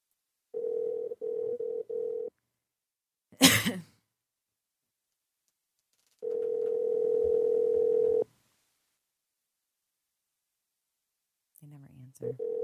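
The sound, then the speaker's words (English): A telephone dial tone hums in a few short interrupted bursts as someone dials the phone, broken by a sharp click or throat-clear, then returns as a steady two-second tone before going quiet. “I'm dialing the phone.”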